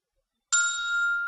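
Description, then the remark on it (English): After a brief silence, a single bright electronic ringtone chime rings out clear after the call button is pressed on a touch-screen phone, its metallic tone sustaining steadily without fading for the rest of the moment. “I heard the ringtone.”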